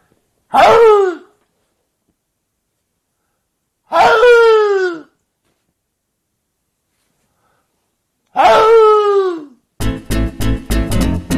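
Three loud, hoarse barks from a red fox, each a raspy call sliding downward in pitch, spaced a few seconds apart with silence between, followed by a different rhythmic pulsing sound.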